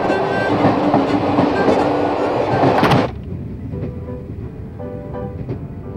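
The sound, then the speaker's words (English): A passenger train, the George Washington Polica, a luxury train, clatters along the rails in a loud, dense roar that abruptly drops after about three seconds to a softer, steady rumble with faint rhythmic clicks. No one speaks. “You certainly know a lot about trains.”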